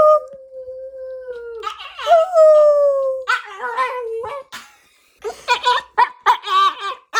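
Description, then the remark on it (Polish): A dog howls in long, wavering, sliding tones, responding to high tones as a parent and young son try to talk with it using high-pitched vocal sounds, followed by a run of shorter yelping howls. “Sami możecie tak spróbować pogadać z waszymi psami. O, tutaj próbujemy z moim synkiem pogadać z Jackiem.”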